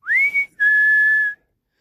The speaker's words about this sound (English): He heard like a bird whistle. He thought, that's funny. Why is there a bird in this cave? So he decided to climb deeper into the cave. It was pitch black, but at least it wasn't raining. So he climbed deeper into the cave, and the whistle got louder.